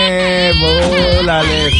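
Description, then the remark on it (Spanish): A baby, frightened by someone's sneeze, cries loudly in one continuous, wavering wail with pitch that rises and falls, filling the whole short moment without pause. “Me asustaste la guagua”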